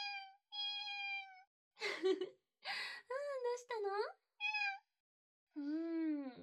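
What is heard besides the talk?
cat meowing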